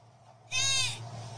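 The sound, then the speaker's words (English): A single loud goat bleat at night, a wavering nasal cry lasting about half a second, rising out of a quiet background with a steady low hum underneath. “He says that sounded like a goat.”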